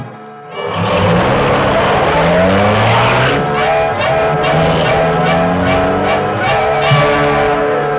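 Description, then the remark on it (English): The Black Beauty, the super streamlined, high-powered car of the Green Hornet, roars loudly, its engine revving up with rising and falling pitch as it accelerates away, tires squealing, the sound sustained with no talking. “this building was in reality the hiding place for the super streamlined, high-powered Black Beauty, car of the Green Hornet.”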